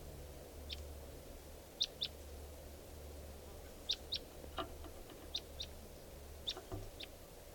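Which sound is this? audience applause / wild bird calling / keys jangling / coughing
wild bird calling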